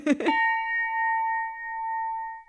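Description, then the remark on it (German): A so-called jazz bell, made to sound an A9 chord, is struck once in a listening test, its chord ringing out as a clean, steady tone that sustains for about two seconds, loud, after a brief burst of sound at the strike. “Sprich, auch wenn die Messwerte im Labor zeigen, dass man die gewünschten Frequenzen ganz gut erwischt hat, im Hörtest kann die sogenannte Jazzglocke nicht so recht überzeugen.”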